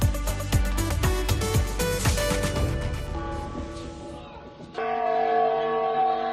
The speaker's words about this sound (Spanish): Y un año más, Toledo celebra el concierto de campanas con motivo de la Semana Grande del Corpus Christi. Es hoy a partir de las 9 de la noche y va a contar con la participación de diferentes campanarios de iglesias y conventos del casco histórico.